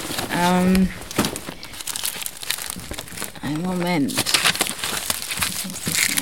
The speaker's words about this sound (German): Ja, ich habe hier meine Papiere, ich muss hier mal ein bisschen kramen.